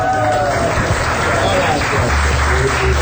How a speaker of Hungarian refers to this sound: Hát, hogy milyen a taps?